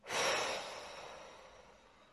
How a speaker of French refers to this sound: Maintenant, vous vous reconnectez doucement au bruit extérieur et vous inspirez profondément pour vous dynamiser. Et vous soufflez fortement par la bouche.